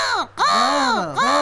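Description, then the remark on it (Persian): Two loud, drawn-out caws of a magpie, each with a nasal, raspy tone and a pitch that dips and rises, separated by a brief gap. They sound like a human voice imitating the call in a dramatic sketch. “بله زاغی جان، زاغی عزیز میشه که با صدای خوشت، با صدای دلکشت یک ذره برای قار کنی که قار خودت برای آرامش میفتن.”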